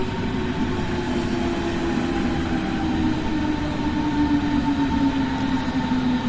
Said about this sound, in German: Oh, da kommt eine S-Bahn.